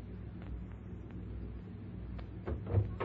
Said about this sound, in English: I'm sure Evelyn will have rushed to answer the door.